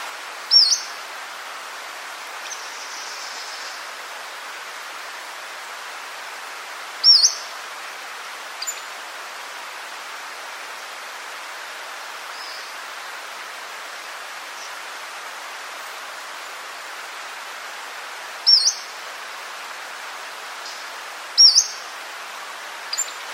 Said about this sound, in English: So here is the, shall we say, the get your attention whistle of the Pacific Slope Flycatcher, which you might hear in a forested area.